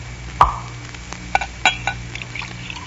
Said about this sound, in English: Blast my eyes if this glass ain't gone and filled itself to the brim with ginger ale.